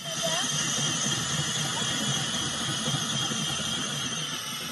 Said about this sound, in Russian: В отдаленном районе Восточной Антарктиды ученые бурят лед толщиной 5 метров.